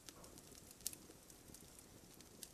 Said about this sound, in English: The sound of the campfire is the only thing you hear as you start to stretch.